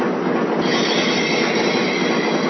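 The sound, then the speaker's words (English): A train locomotive pulling out, giving a loud, steady rumble of engine and rolling wheels with a hissing, metallic edge and no voices. “Okay, ready to pull out.”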